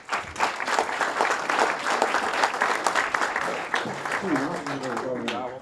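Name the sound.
audience applause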